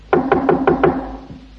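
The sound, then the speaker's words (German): Five quick, evenly spaced knocks on a school door, sharp, followed by a single fainter knock after a short pause, with no voices. “Auf einmal klopft an die Tür.”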